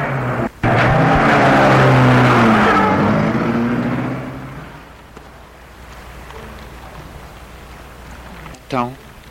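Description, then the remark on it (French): A taxi's engine starts up loud and revs as the taxi pulls away after dropping off a passenger, then fades away, leaving a quiet, deserted, poorly lit street with a brief high chirp near the end. “Elle entend le taxi s'éloigner.”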